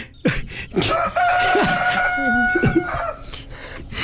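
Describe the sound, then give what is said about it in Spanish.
A rooster crows loudly and nonstop, one long strained cock-a-doodle-doo stretching over several seconds, with shorter squawks and clucks around it and no talking. “No deja de cantar.”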